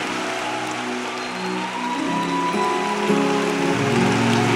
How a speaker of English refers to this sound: In Jesus' name. Can you clap your hands to Jesus?